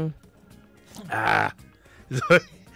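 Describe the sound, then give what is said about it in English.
A person clears their throat in two rough, raspy bursts: a longer gravelly rumble followed by a shorter, sharper one, with quiet pauses around them and no speech. “Let me clear my throat.”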